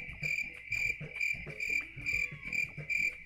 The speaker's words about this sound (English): Yep, that was it. Yeah, actual crickets.